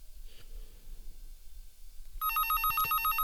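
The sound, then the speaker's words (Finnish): A telephone starts ringing partway through, a bright electronic ring pulsing in rapid repeated bursts, loud after a quiet low rumble with no talking. “Puhelinkin soi.”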